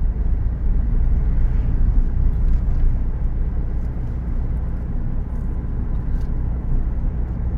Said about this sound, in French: Oui, ça c'est des voitures de chasseurs.